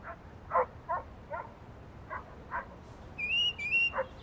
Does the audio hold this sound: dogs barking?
yes